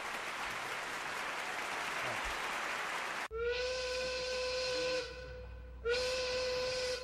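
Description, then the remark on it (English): A loud, broad hiss of escaping steam gives way to a steam train whistle sounding two long, shrill blasts with a short pause between them, strong. “Did we miss the train? Is it gone? Did it pass?”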